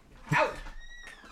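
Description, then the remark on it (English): A dog gives one sharp bark, then lets out a thin, high-pitched whine that stretches on for about half a second. No one is talking. “That's my fucking dog.”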